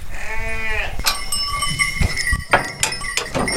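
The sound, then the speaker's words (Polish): A goat lets out one loud, wavering bleat, followed by shuffling, clattering farmyard noises and scattered knocks as the animals, seven goats, a sheep and a lamb, move about. “Ile w sumie macie kóz? 7 kóz i owieczka i baranek.”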